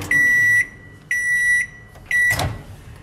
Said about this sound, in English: Back home, pop the tray in the microwave.